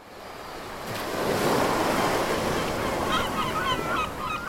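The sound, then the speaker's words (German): Steady rushing wash of sea waves on the open sea at the Borkum Reef Ground nature reserve, about 20 km from the island of Borkum, swells and holds loud with wind noise, while several birds call out over the surf near the end. No one speaks. “Der Borkum-Riffgrund ist ein Naturschutzgebiet im offenen Meer, gut 20 Kilometer von Borkum entfernt.”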